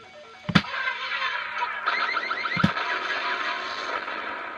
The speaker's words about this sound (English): And there was an alarm, and it killed me.